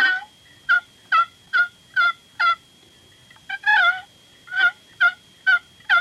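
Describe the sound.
A wooden box call imitates a turkey's fall call with a series of about ten raspy, high yelps in an uneven rhythm, loud and alone with no talking, a short pause partway through.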